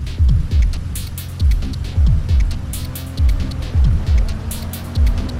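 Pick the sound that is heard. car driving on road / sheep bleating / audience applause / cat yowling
car driving on road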